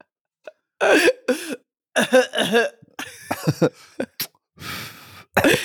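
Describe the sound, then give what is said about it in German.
A person imitates a harsh, barking croup cough in a series of loud bursts, some with raspy, strained breaths in between, followed by a hoarse wheezy inhale. “Ja, mach dich ruhig lustig über die Krankheit meines Kindes.”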